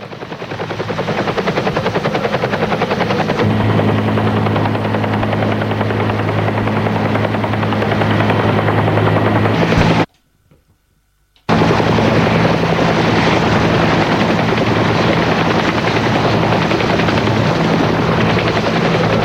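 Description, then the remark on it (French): A helicopter carrying a patient roars as it takes off beside a stopped ambulance, its rotor thumping loud and steady, with the engine tone deepening early on; a brief gap of silence splits the noise midway. “se trouve à côté des parents de Pierre et l'hélicoptère s'envole”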